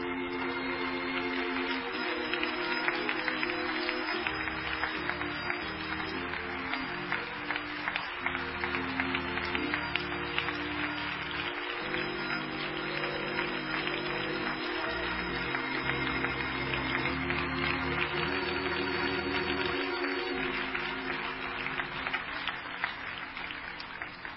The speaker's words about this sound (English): Would you join with me and clap your hands and worship the Lord?